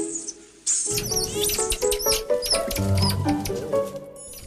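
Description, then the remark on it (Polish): Squirrel monkeys (Saimiri), a family living in a tree, squeak in rapid, high-pitched chirps and short whistles, fairly loud, with soft scampering patter underneath as the busy calls overlap throughout. “Jak już mówiłam, te małpki nazywają się Saimiri.”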